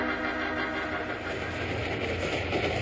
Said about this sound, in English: So when the train began to near Broken Wheel Grade, he called for the next move.